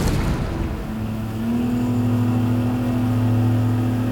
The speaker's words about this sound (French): Dans le vrombissement du moteur, chahuté par les vagues